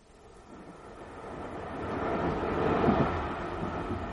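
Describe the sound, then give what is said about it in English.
A commuter train rattles along the tracks, a steady rumbling clatter that swells from moderate to loud as it passes, with no voices. “People in Staines, Godalming, the commuter trains rattling into the darkening southwesterly suburbs.”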